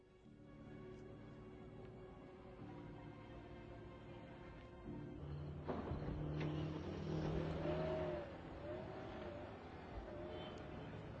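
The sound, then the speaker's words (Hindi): A car engine idles steadily, then swells into a loud rev around the middle, with a few rising and falling throttle bursts as the vehicle pulls off, faint voices in the background. “गाड़ी अर्ज किया कि मेरी ही गाड़ी है। मैंने कहा इसे यहाँ से हटाएं।”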